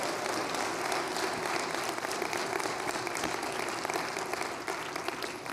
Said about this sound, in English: So can we just give a huge round of applause to Jason Augustine?